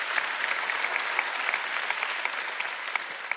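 An audience claps steadily for several seconds, a dense, even patter of many hands at moderate volume with no voices standing out.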